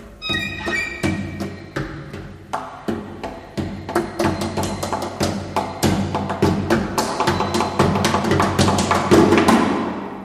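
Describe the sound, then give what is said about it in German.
Rhythmic knocking on violin bodies by a string quartet, sharp wooden taps that start sparse alongside sustained string notes and grow denser and louder into a steady percussive pattern. “Eben zu Beginn das Klopfen”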